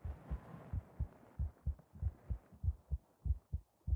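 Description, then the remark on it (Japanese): A steady heartbeat thumps, muffled low pulses arriving in quick lub-dub pairs about once every half second, with a soft rumbling hum underneath and no voices. “心音まで聞こえちゃうね。”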